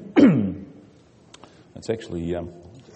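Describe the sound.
A single sharp cough bursts out, followed after a short pause by a rough, voiced throat-clearing rumble.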